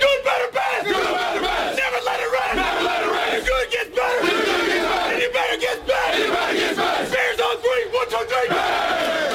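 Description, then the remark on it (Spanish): A large crowd chants "Good, Better, Best" in loud, rhythmic bursts, voices roaring together with brief dips between repetitions and a steady wash of cheering underneath. “Lo cierto es que el grito, la consigna Good, Better, Best, bueno, mejor, lo mejor, se ha hecho muy popular a lo largo del mundo, en todo el mundo, y se ha desgajado de lo estrictamente deportivo.”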